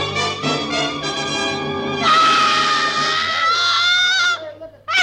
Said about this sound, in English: And then she threw up her hands and shrieked.